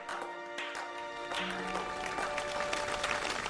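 An audience claps, as urged, to show they believe in crypto, in a dense, steady burst of many hands lasting a few seconds, with faint tonal hums running underneath and no voices standing out.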